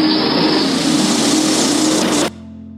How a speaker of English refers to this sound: The trucks are starting. Let's get out of here.